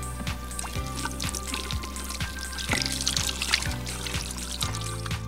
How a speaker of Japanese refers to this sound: さあしっかりと水で手を洗えました。